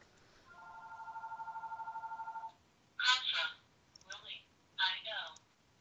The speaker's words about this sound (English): Your phone's ringing. And my phone's ringing.